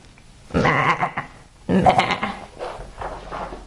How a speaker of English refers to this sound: Something else too. You know what those are? What's that, sweets? Goats.